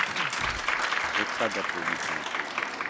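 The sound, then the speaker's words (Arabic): Sustained audience applause, a dense, steady crackle of many hands clapping throughout, with a voice speaking over it partway through, at a session where a speaker reminds the audience that applause is not needed. “Okay, I'm reminding you that we don't need applaud now.”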